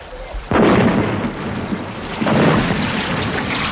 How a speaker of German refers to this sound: Kanoniere! Gebt der Natividad den Rest! Gebt Feuer!